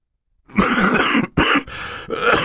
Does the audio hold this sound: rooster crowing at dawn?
no